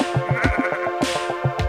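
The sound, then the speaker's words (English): A sheep bleats in a long, wavering call, its voice quavering in rapid pulses from start to finish with no talking. “The little sheep,”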